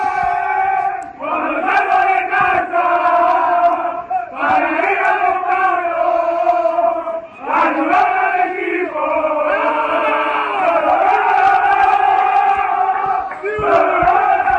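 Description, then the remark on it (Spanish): Mérida football players sing loudly together in the locker room after their 0-1 win over Linares, chanting a rowdy victory song in unison. Strong sustained harmonics, brief breaks between phrases and shouts are mixed into the steady, raucous chorus. “Bueno, vamos a escuchar a los jugadores del Mérida cantando en el vestuario tras la victoria el pasado domingo 0-1 frente al Linares.”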